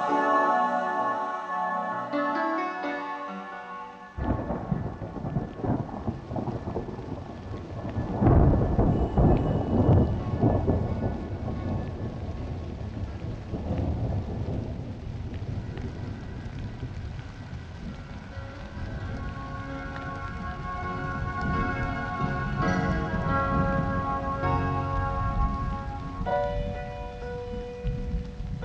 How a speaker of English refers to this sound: The rain was killing the last days of summer.